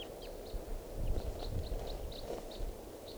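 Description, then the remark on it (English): A bird gives a steady series of short, high-pitched calls, about ten sharp notes in quick succession, faint over a constant low rumble of wind and background noise. “It's recording, I hear calling. I think of that same bird.”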